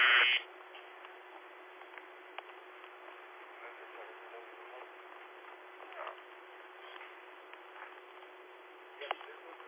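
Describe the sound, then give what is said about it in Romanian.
A radio repeater tone, given as a demonstration on a radio repeater, sounds as one short, loud beep right at the start, then gives way to a steady hiss of narrowband radio static with a few faint clicks. “Mai târziu începe ceva, dar făceam o demonstrație cu tonul la repetorul nostru.”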